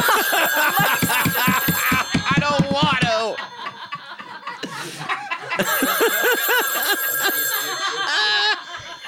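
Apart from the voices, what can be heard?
telephone ringing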